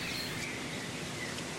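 Dawn chorus: scattered thin whistles and chirps from several birds, including blackbirds and warblers, rise faintly over a steady outdoor hiss, with no voices.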